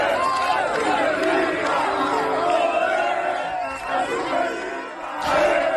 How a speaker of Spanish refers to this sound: los jugadores se encontraron con entre 200 y 300 personas que se habían desplazado hasta allí para recibirlos